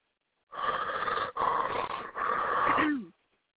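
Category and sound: vocal imitation, person imitating a growl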